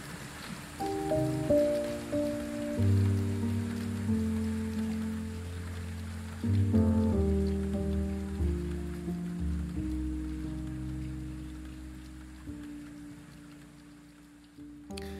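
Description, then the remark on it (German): Steady rain hisses in the background beneath slow, sustained musical chords that shift every few seconds; no one speaks, and the downpour stays even and moderately loud throughout. “bis auch mir mit der brennenden Liebe der Scharlachlichtnelke die Augen zufallen und der Regen nur noch ein zartes Echo aus der Weite des Canale Grande sendet.”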